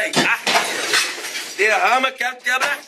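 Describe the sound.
Loud crashes of religious objects being smashed and shattered on a hard floor by a woman, a burst of breakage, followed by a raised voice speaking in the second half.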